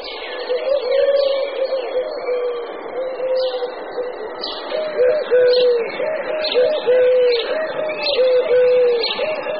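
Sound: eurasian collared dove cooing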